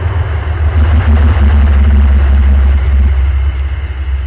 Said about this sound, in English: Oh, train's going by. Hang on.